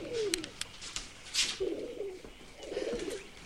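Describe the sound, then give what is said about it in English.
A pigeon that has landed on a man's back coos in three soft, throaty rolling calls spaced evenly apart, with faint rustling and light clicks in between and no one talking. “A pigeon lands on his back and he can't shrug it off.”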